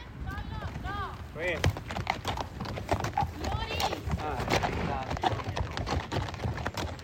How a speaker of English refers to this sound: This is the Appian Way Regional Park, where we heard the crickets a moment ago. But during the day, you might hear horses like these clomping along on its basalt stones, as they have for thousands of years.